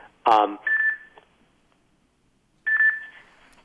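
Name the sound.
phone beeping tones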